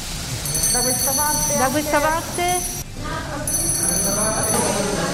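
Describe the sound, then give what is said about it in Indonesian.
A small hand bell, handed over by Mario Draghi, is rung by Italian Prime Minister Giorgia Meloni at a traditional handover ceremony at Palazzo Chigi in Rome, with a bright, high, sustained tone in two stretches, briefly pausing between them, while people talk and murmur underneath. “Kedua pemimpin saling tukar pandangan hangat ketika Meloni dengan gembira membunyikan lonceng kecil itu.”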